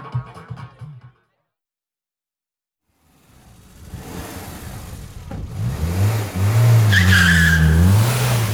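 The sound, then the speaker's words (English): A car engine revs up and tyres squeal loudly as the car speeds off into the road, the screech rising in pitch and sustained over the roaring engine, intense. “The tyres squealed and the car shot into the road.”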